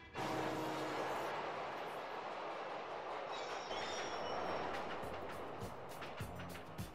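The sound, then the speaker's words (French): A loud, steady roar of a subway train rumbling along in New York, with a thin metallic wheel squeal rising midway, set in a dense wash of city noise and cars. “Dans la scène d'ouverture du film, on nous présente tout d'abord le lieu de l'action, donc New York, avec les bruits de la ville, du métro et des voitures.”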